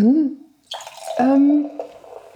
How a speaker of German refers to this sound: Und, darf ich dir nachschenken? Ja, natürlich. Natürlich. Hört ihr dieses Plätschern dieses wunderbaren Champagners?